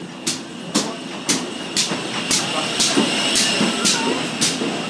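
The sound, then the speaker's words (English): A train engine rumbles steadily, with sharp, evenly spaced clacking beats about twice a second, gradually growing louder as it approaches. “what model is it, please, from the engine noise? Oh, here it is. It's coming up for us.”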